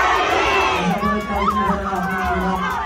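A large concert crowd in Milan, Italy, shouts a call-and-response chant together in a loud, dense roar. The voices blend into a sustained collective yell with rising and falling pitch, continuous throughout.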